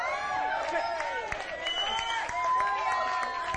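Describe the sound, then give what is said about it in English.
A large crowd, on its feet, cheers and shouts in overlapping voices while scattered hand claps ring out, a steady, fairly loud wall of jubilant noise throughout, making a joyful noise to the Lord. “I want you to make a joyful noise as unto the Lord.”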